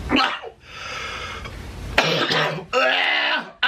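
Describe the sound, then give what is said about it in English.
A CPAP machine worn over a man's nose hisses with a steady airy rush in long bursts that rise and fall with each breath, mixed with raspy, wet throat sounds like coughing or gargling. “And you can hear the CPAP machine he is wearing over his nose in this video.”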